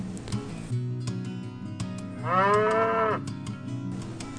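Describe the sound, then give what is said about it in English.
A single drawn-out cow moo, full, lasting about a second, with a steady low hum and occasional soft clicks underneath. “No, it's a prime lean beef cow roaming free and restless on the range.”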